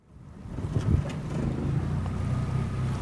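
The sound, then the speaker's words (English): A small motorboat putters steadily along the canals of Venice, Italy, its low engine hum constant, with water wash and light wind noise over the microphone and no one talking. “Last Saturday morning, I boarded a small boat and traveled along the canals of Venice, a city built on more than 100 small islands connected by 400 bridges.”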